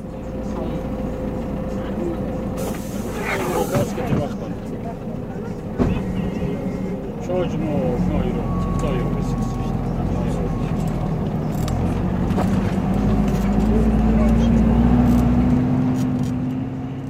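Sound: bus driving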